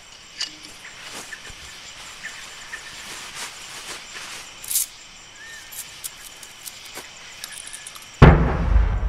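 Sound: cannon boom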